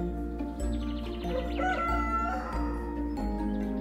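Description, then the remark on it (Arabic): A rooster crows once, a drawn-out rising and falling call, clear, over a steady low background hum with no one speaking. “استيقظ جحا على صوت صياح الديك”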